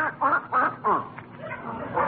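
A duck named Henrietta, asked to spell 'cat', quacks in a quick, chattering series of raspy, nasal bursts, fairly loud, with a few short pauses between calls.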